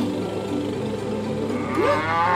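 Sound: cow mooing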